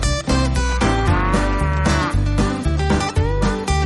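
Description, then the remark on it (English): Cows low loudly and almost without pause, several overlapping moos over a dense, rumbling background with regular clattering knocks, in a rotary milking parlor on a dairy farm that holds about 72 cows at a time for milking. No one speaks. “Well, this is the rotary milking parlor. This is where the cows come to get milk.”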